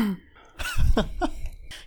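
throat clearing

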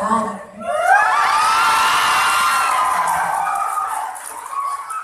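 crowd cheering and applauding

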